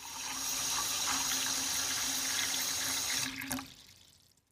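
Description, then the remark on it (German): Water runs steadily for a few seconds with a bright, hissing splash as glasses are filled with water for dyeing Easter eggs, then cuts off sharply and trails into quiet drips. No voices. “Papa hat Gläser mit Wasser gefüllt.”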